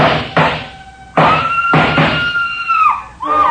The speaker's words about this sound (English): The scream filled the house, high and frenzied.